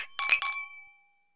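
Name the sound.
glasses clinking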